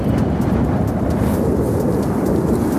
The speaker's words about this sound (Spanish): La verdad es que las imágenes son impactantes. Rayos atravesando el cielo de la capital aragonesa. Es la tormenta eléctrica que se cernía hace unas horas sobre esa misma ciudad.